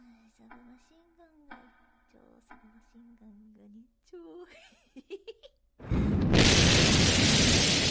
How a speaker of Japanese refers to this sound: っていうかまた爆発？